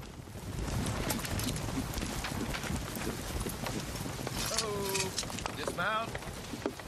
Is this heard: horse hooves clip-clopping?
yes